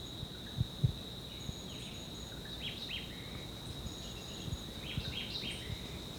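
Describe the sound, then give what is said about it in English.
Two short bursts of faint song from a Jamaican white-eyed thrush, about 30 meters away in dense vegetation along a ridgetop, ring out over a steady, high insect drone, with a few low thumps underneath and no talking. “Yeah, this is still a white eye.”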